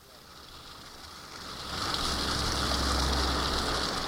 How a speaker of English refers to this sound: Tannery Creek runs through the middle of Woodstock, New York, in the Catskill Mountains. It's about 120 miles from New York City, yet streams like this one is where the Big Apple gets most of its water.